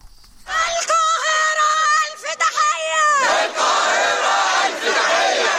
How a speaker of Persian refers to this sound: فریاد حمایت از فلسطینی‌ها در قاهره.